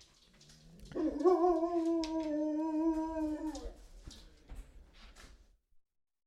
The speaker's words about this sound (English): here, the dog's gonna bark again.